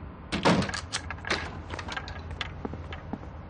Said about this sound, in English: We cut to Babs in bed at 3 in the morning, when she's woken up by a knocking on her door.